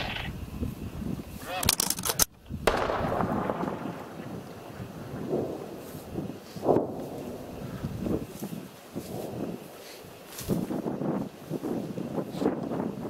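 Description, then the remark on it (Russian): Gunfire on a radio command to fire at targets: a few loud, sharp blasts spaced several seconds apart, each trailing into a rumbling decay, over steady wind noise and a low background roar. “Арочка, огонь!”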